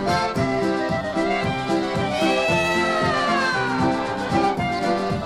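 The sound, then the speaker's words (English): A polka record by a polka band plays: loud, bouncy polka with a steady oom-pah beat, layered with repeated high, sliding kitten-like meows that carry the melody throughout. “miau, miau, miau, miau, miau, miau, here's a quartet now. That's our kittens when they're sitting, they don't sing bow bow.”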